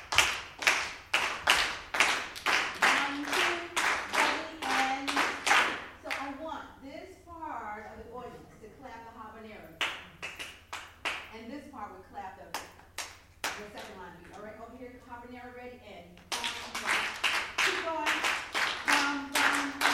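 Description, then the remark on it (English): Sharp, crisp hand claps beat out a syncopated New Orleans second line rhythm, also called the bambula or parade beat, loud and steady at the start and again at the end, with a voice speaking over a pause in the clapping between. “We call it the second line beat.”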